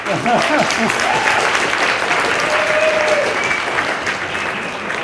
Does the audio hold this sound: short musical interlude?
no